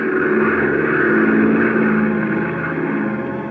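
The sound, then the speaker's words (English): Nine B-24 bombers lift off from a desert airfield, their engines roaring together in a loud, steady drone with a deep throbbing hum, swelling slightly and then easing, with no voices. “And exactly 60 minutes later, 9 B-24s lift from the desert airfield.”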